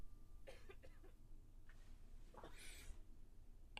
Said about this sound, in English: Dang it, I got to cough again.